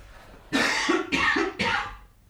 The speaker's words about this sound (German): Ah, der Frosch, der wäre jetzt sonst rausgekommen. Ja, aber vorbildlich für euch da draußen, wenn ihr das gehört habt, er hat also quasi schon in die Beuge rein gehustet.